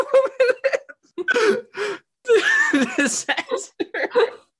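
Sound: imitated throat clearing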